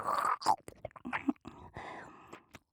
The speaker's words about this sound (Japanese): もぐもぐと咀嚼をすると唾液が分泌されますから、聞こえますか？このようにグツグツと音が鳴らせる程度の量がたまれば十分です。